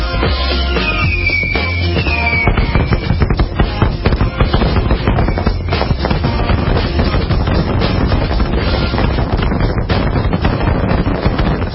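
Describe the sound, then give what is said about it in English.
A rapid, continuous barrage of fireworks crackling and popping, dense overlapping bangs with a whistling rocket streak early on, loud and sustained throughout with no voices. “Yeah, it sounded like my neighborhood just a little while ago, and then I heard sirens. Yikes! And it's not even the official fireworks display that goes on in my city.”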